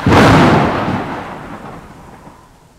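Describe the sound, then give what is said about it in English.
A deep, rolling clap of thunder bursts loudly at the start, then rumbles and slowly fades away over a few seconds, with no voices present. “On Wednesday, it's stormy.”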